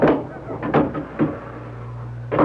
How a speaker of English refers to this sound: Let me close the door.